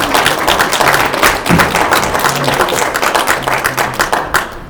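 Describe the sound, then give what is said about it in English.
A crowd claps steadily for several seconds, a dense patter of many hands, with a few voices faintly murmuring underneath. “Give them a little clap offering.”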